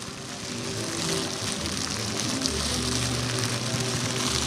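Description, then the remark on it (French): Dense, steady crackling and snapping of small twigs catching fire as a small campfire is started. A continuous bright hiss of tiny pops with a low hum underneath and no voices. “Voilà, là en ce moment en fait c'est les brindilles qui sont en train de s'enflammer.”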